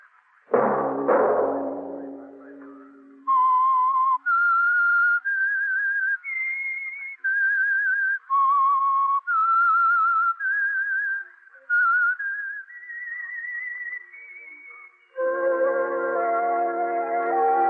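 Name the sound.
whistled theme tune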